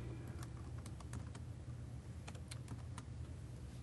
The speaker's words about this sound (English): So what's that magic command you're typing? That says, please stop when you load clr.dll.